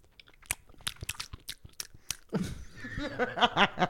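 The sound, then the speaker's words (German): Bite into a soft donut with a pudding-like cream filling, followed by a quick run of sharp, moist chewing smacks right at the mic, then a hummed, appreciative murmur from the eater. “Ich beiß da jetzt rein.”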